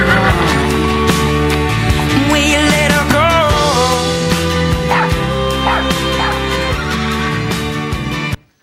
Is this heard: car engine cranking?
no